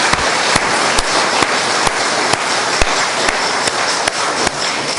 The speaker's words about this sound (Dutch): Maar sowieso alle die hebben meegewerkt aan dit startweekend. Dank jullie wel. Hartstikke bedankt. Mag ik even een applaus?